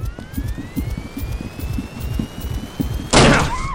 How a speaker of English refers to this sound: Now. Striking door.